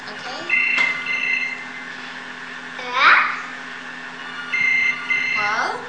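An electronic telephone ring sounds in two warbling bursts, fairly loud and close, with a young child babbling and chattering in between.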